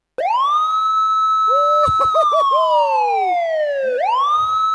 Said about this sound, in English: Hold on. Let's put the sirens on.